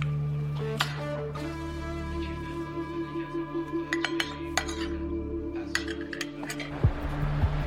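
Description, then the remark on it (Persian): Metal cutlery clinks and scrapes against plates in an irregular rhythm over a steady low hum as a man starts eating his food. No one speaks. “شروع به خوردن میکنه.”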